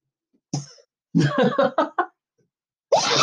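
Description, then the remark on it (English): A sharp sneeze bursts out, preceded by a few quick breathy, cough-like bursts; no talking, just the abrupt explosive sounds with brief silences between them. “Bless you.”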